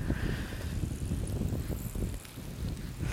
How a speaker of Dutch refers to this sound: Je hoort mensen voorbij rennen. Er komt ook een fietser langs.